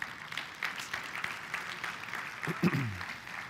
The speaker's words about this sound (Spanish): ¿Le podemos dar un fuerte aplauso al Señor?